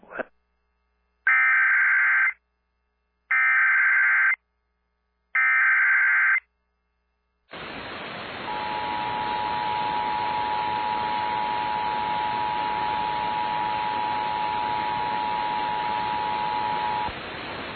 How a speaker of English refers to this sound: This is a test of the emergency alert notification system for the Duke Power Oconee Nuclear Station. This message accompanies the testing of the sirens installed in the 10-mile area around the station.